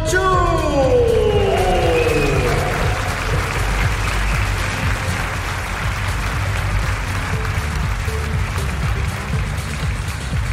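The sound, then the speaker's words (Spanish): Loud audience applause at a fashion show for designer Celia Orellana and CO2 as the collection's signature dress appears, a dense, steady wash of clapping with a few cheers and whoops rising over it at the start. “¡Demos un fuerte aplauso a Celia Orellana y CO2!”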